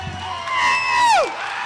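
An audience cheers, with one loud, sustained whoop held at a steady pitch before sliding sharply downward and breaking off, over a steady wash of crowd noise.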